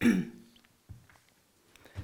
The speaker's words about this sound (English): I'm going to cough, so I'm going to take a sip. Excuse me for a moment.